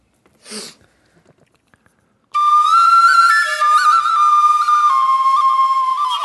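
A brief breathy puff, then a loud whistle blown in one long, wavering tone for about four seconds, its pitch dipping and shifting slightly, played as an improvised intro jingle.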